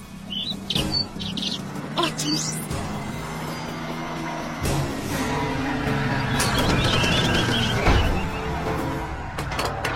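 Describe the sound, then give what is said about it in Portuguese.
A dense flock of birds chirps and tweets nonstop, with a busy rustle of flapping wings underneath; a voice briefly exclaims partway through. “Os pássaros estão prontos, Lu?”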